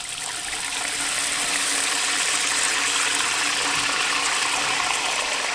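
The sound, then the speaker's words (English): Water runs from a faucet in a steady, hissing stream, fairly loud, holding an even level from start to finish with no voices. “For most individuals, water is as close as turning on a faucet.”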